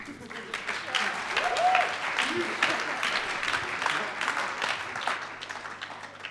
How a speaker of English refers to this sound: Not many of us get applauded for doing the Bible reading, so that's it's really good.